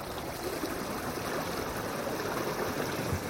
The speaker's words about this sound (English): Oh no, a column of sewage water. It's forming a spooky face like some fearsome phantom fountain.